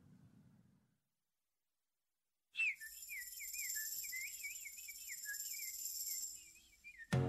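Sparrow chirping in a quick, warbling run of high twittering notes that lasts a few seconds, fairly loud, with a faint steady hiss behind it and no talking.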